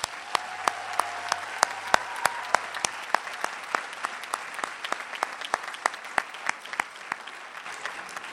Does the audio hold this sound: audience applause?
yes